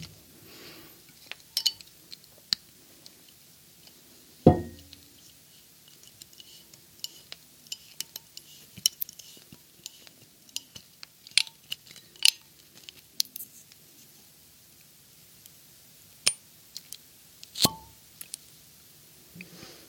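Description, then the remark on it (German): A bottle of 2017 Grenache wine from the Ardèche, France, being opened: a run of small scrapes, clicks and metallic fiddling with foil and corkscrew, punctuated by a couple of sharper thuds or pops, with no talking. “Und den mache ich jetzt mal auf.”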